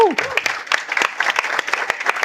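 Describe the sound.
A dense burst of audience applause, many hands clapping in quick irregular sharp cracks at a steady loudness, with a brief voice sliding in at the very start.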